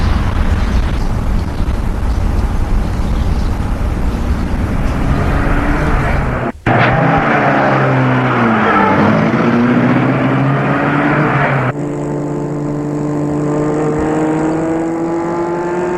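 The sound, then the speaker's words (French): A car engine runs loudly, briefly cuts out, then revs up as a man drives off in his car, taking a woman home, and settles into a steady driving hum. No one speaks. “Il lui demande en roulant”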